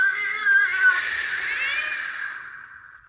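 A cat yowls in one long, drawn-out wail that wavers in pitch, fairly loud, in a back room behind a bolted door, slowly fading toward the end with no talking.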